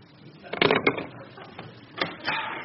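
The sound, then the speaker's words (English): A door slams shut with a loud, rattling burst of noise, followed by a couple of quieter bumps and clatters that fade out. Nobody speaks. “Your door slam helped a lot.”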